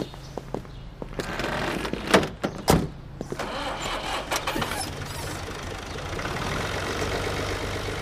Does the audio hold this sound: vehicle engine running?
yes